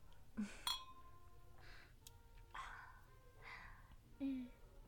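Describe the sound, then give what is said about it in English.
Glasses clink together in a toast at a sushi dinner, a couple of bright ringing chimes that hang briefly in the air, with people chatting and laughing. “All right then, glasses up.”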